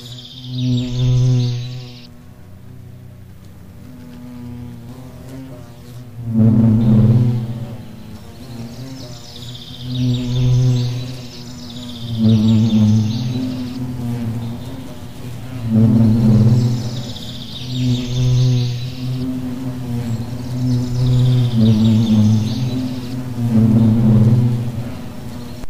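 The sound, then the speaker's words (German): Bumblebees buzz, a low droning hum that swells and fades as they move around, while birds chirp intermittently in the background. “Hört die Hummeln.”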